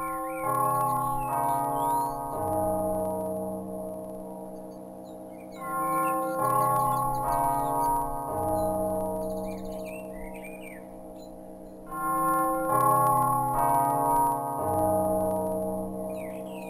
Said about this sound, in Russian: Тягостное раздумье прервал мелодичный звон колокола.